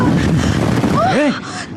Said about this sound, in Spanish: ¿Qué diablo fue eso? ¡Una explosión! ¡Algo sucedió en el campamento!